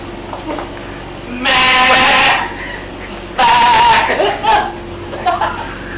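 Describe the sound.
A person imitates a sheep bleating in the wind with two loud, drawn-out, wavering bleats, separated by a short pause, with quieter breathy sounds before and after.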